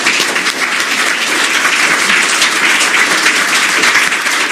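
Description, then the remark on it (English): An audience at a city event claps steadily for the candidates for several seconds, a dense, loud wash of many hands with no pause or voices breaking through. “Let's give a round of applause to the candidates.”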